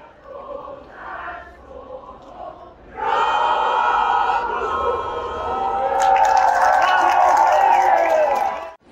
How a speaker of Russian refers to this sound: Но, конечно, это все происходит очень небыстро, и большинство зрителей при этом продолжают уже петь под стенами дворца.